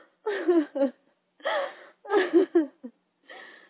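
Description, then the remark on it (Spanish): A woman sobs hard, alone in her room, in several shaky, wavering bursts broken by short gasping breaths, with no words spoken. “Cuando al fin estuvo sola en su cuarto, puso la quena a un lado y rompió en un llanto incontenible, pensando en su pastor.”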